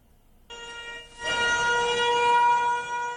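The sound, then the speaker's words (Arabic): Warning sirens wail in a steady, sustained tone, starting suddenly and then swelling louder as more sirens join in, holding a rich layered pitch with no voices present. The sirens sound to commemorate the anniversary of the Nakba, marking 74 years. “منذ 74 عاما تدوي صافرات الإنذار بذكرى النكبة على عدد سنينها، فهنا النكبة مستمرة”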